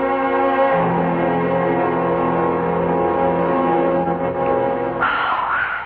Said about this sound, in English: And I can't understand why we're standing outside an obviously empty house ringing a doorbell when we could go back to our place.